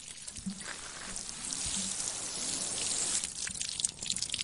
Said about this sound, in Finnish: Näin, kastelukanulla kastellaan kaiken vaivan jälkeen